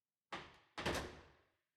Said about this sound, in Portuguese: A única porta da sala foi aberta e um homem entrou, avançando em direção ao corpo.